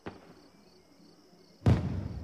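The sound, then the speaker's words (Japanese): Fireworks going off: a faint, sharp pop at the start, then after a quiet stretch a loud, heavy boom whose rumbling crackle lingers to the end. “花火が始まった。”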